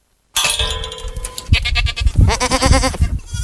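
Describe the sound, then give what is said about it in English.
Several goats bleat loudly, their wavering calls overlapping one after another in a busy outdoor paddock, with no one speaking. “But obviously the other goats, you know, we can't just keep every single goat that's been bred.”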